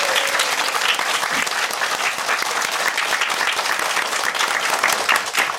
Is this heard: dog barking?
no